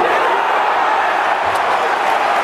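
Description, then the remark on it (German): A large Spanish crowd cheers in a steady, dense roar of many voices, loud and continuous throughout, like a packed stadium celebrating, at a U21 football match against Germany. “Dieser spanische Jubel.”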